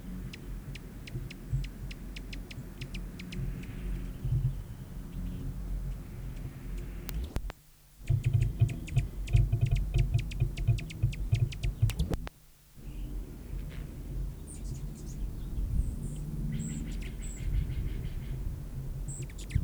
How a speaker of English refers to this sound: females, Elasphorus foraging on Nicotiana glauca, and chatters in the background, several birds involved in the chatters.